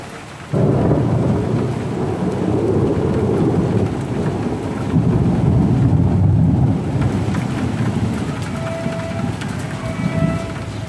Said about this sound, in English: Thunder in Lyon.